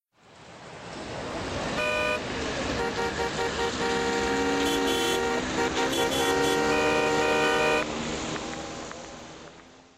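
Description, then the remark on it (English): Dense street traffic in Delhi, India, at night roars steadily while several car horns honk repeatedly, overlapping short and long blasts, with engines rumbling underneath throughout; cyclists, motorbikes, taxis, trucks and cars share roads with no lanes. “Cyclists, motorbikes, taxis, trucks and cars all share the roads.”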